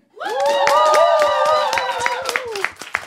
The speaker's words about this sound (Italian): Allora facciamo un applauso agli assenti. È un po' debole però l'applauso. Ho capito, sono assenti, li applaudiamo meno? No, dai.